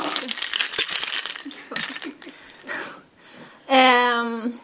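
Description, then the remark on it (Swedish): A large bunch of keys to several small cabins, all gathered on one ring, jingles and clinks in a busy metallic rattle for about three seconds, then falls quiet before a short sustained vocal sound. “Mm, du har en jättestor och fin nyckelknippa där, som är riktig vaktmästare. Mm, som låter.”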